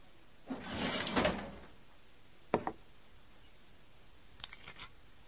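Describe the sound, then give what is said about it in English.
A desk drawer holding Jim Beam whiskey slides open with a scraping rush, followed by a sharp knock and a few faint, light clinks, with no one talking. “So I tell you what, Andy, either you part with an inch of the Jim Beam you got in your desk drawer, or we hang it up for tonight.”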